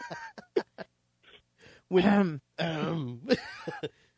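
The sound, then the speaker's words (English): Several quick, sharp coughs, followed by two longer, rasping throat-clearing sounds with a hoarse, honking voiced quality. “if you need to cough, go right ahead.”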